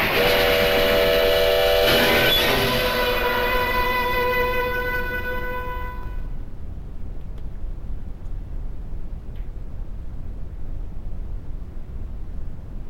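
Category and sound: vehicle, train passing with whistle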